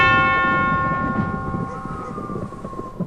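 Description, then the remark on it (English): A single loud strike of a large bell on a statue in a village square, hit with a silver hammer, its deep resonant tone ringing out and slowly fading over a few seconds, with a low rumbling undertone beneath. “With? Statue. Bell.”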